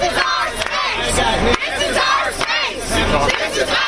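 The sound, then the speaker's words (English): A large crowd of protesters marching through Charlottesville, Virginia, shouting anti-Nazi chants in unison, loud, with rhythmic bursts of many voices rising and falling throughout. “That's a crowd of people shouting anti-Nazi chants and expressing support for Heather Heyer marching through Charlottesville, Virginia today.”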